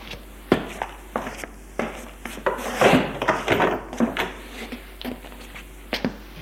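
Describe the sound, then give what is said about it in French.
Footsteps thud across a wooden floor at an unhurried pace as someone at home goes to answer the doorbell, followed by the door being opened with a brief rattle and rub of wood, with no voices. “Et puis un matin, lorsque j'étais chez moi, on sonna à ma porte. J'allais ouvrir.”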